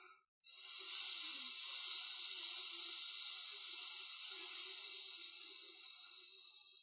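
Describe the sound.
A person vocalizing the S of a mantra holds a long, steady hissing "sss" through closed teeth for about six seconds, bright and even like a soft whistle, with no talking.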